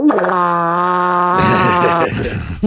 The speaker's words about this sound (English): Your farts sound the same every time